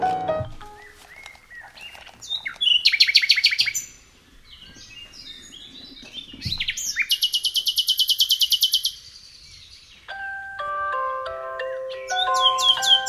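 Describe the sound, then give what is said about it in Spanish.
Birds chirp and trill with no talking, including a couple of rapid, buzzy bursts of chirps and a run of clear whistled notes near the end, all fairly loud. “Bueno, ala, corta y pone un pájaro.”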